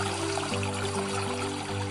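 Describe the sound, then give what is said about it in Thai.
Steady rushing water roars continuously, like a fast-flowing river, fairly loud, with a low sustained musical drone humming underneath and no voices. “ตลอดเส้นทางที่ไปนั้นเต็มไปด้วยความยากลำบากต้องผ่านแม่น้ำที่ไหลเชี่ยว”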